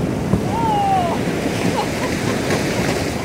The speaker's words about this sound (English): That's what it sounded like as our boat plowed through the sea ice as we looked for an ice floe that was thick enough to call home base for an entire year.